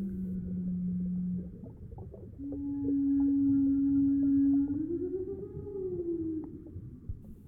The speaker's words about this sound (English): If we go down this scale of tempos, past humans and down into the world of animals with slower metabolisms, we enter the world of large whales, whose songs appear almost like a series of disembodied drones hanging in the void.